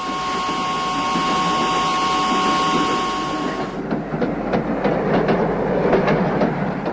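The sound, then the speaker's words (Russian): A train rolls steadily along the tracks, its wheels clattering in a loose rhythmic clickety-clack over a low rumble, with a faint whine fading partway through. No one speaks. It is the imperial train departing Tsarskoye Selo for the Stavka at 2 p.m. on 22 February. “В 2 часа дня 22 февраля императорский поезд отбыл из царского села в ставку.”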